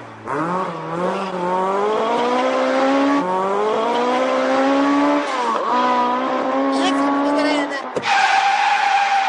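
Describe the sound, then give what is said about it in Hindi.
A car engine screams at high speed as the car is driven urgently from Ashram via Nizamuddin toward India Gate, its pitch climbing steadily and dropping briefly with each gear change, loud throughout, with a hint of tire squeal. “मैं गाड़ी चला रहा हूँ यार, काम जरूरी है, आपको मैं कह चुका हूँ ना, बहुत अर्जेंट काम से निकला हुआ, वरना मैं इतनी तेज कभी नहीं चलाता।”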